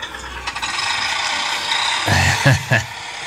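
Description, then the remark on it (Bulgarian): An excavator-sound ringtone, the main ringtone of a mid-range phone, like Caterpillar excavators, played from the phone's large rear speaker: a steady mechanical ratcheting and grinding clatter, rising near the end into two or three louder, heavier metallic clunks, with no voices. “Багер. Като багерите катърпила. И това ти е основният рингтон, който със сигурност много фенове ще го оставят.”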